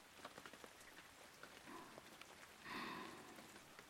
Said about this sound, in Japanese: 雨まだやみそうにないよね。雨が止むまでは帰れないよね。